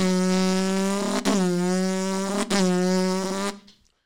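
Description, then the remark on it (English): A voice imitates a horde of Honda Civics with giant aftermarket mufflers outside: a steady, buzzy low drone broken by two brief dips, each followed by a rising pitch like a revving engine, then it cuts off. “This time it was a horde of Honda Civics. You know what I'm talking about? The ones with that giant muffler on the back.”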